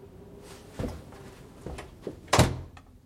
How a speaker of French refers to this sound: J'ai refermé la porte dans un geste sec.